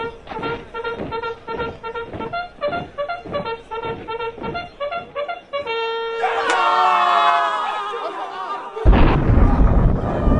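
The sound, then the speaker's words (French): After rhythmic trumpet blasts sounding the signal for battle and a swell of clamorous noise, a sudden loud thunderclap bursts from the sky near the end, crashing into a deep, sustained rumble. “Un tonnerre éclate du haut du ciel, sauf qui peut.”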